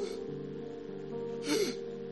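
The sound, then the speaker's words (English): A voice imitates the labored, gasping breathing of a dying girl with shortness of breath: one sharp, raspy intake of air near the end, over a steady low hum in the background. “And even from when I was talking to her, I could hear the way that girl was breathing.”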